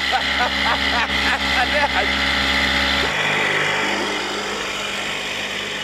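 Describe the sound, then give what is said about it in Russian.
A motorboat engine drones steadily, its low rumble shifting in pitch partway through, with voices talking briefly over it early on. “Хочешь поуправлять лодкой?”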